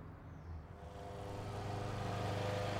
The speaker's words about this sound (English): A motor mower beyond the hedge distracts your thoughts, but the freshness of the newly mown grass pleases.